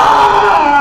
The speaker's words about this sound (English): But on YouTube, there's Ramsey the Unhappy Lynx. Let's listen to Ramsey the Unhappy Lynx, shall we? This is the sound of a pissed off lynx.